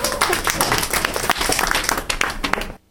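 A crowd breaks into steady applause, many hands clapping in a dense, crackling wash that holds loud for nearly three seconds before cutting off abruptly.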